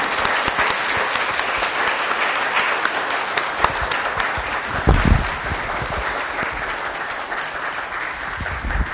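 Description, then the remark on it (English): An audience applauds its guests steadily, dense overlapping claps forming a continuous wash of sound that holds at a fairly loud, even level for the whole stretch, with a few bumps and thuds mixed in. “Let's give our guests a round of applause.”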